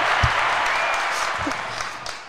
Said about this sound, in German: Dafür gibt es einmal einen großen Applaus.